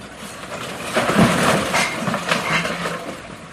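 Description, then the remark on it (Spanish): A lava flow about as tall as two stacked buses advancing in the municipality of Los Llanos, crushing rock and burying houses: a steady, dense rumble with irregular crunching and clattering bursts, loud throughout, with no voices. “Es impresionante escuchar cómo se oculta en cuestión de segundos casas enteras.”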